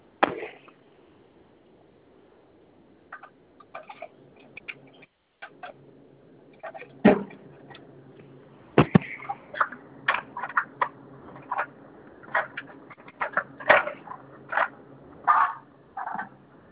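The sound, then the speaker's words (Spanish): A door is moved, making irregular rattling clicks and knocks, some sharp, others quick light taps clustered together, over a steady low hum with no talking. “Es que como que muevo la puerta y suena.”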